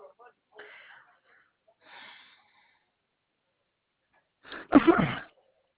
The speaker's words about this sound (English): Bless you.